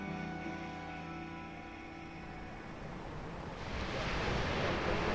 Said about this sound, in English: Actually standing here, we can hear the sea down below, and the sea is blue and stretching away forever on our right. We just stopped at the edge of a cliff looking down onto the beach and the waves coming up